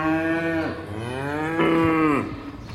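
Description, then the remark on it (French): A farmer's herd of Montbéliarde cows moo loudly: two drawn-out, resonant calls, the second bending upward in pitch before trailing off, with no voices over them. “Donc là, on a quelques vaches montbéliardes devant.”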